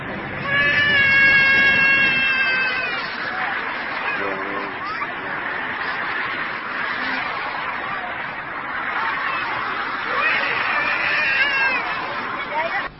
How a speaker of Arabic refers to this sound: يا سلام، يا عيني الواد بيعيط، ادي الواد لابوه، مش كده؟ شيل الواد من الارض، ادي الواد لابوه.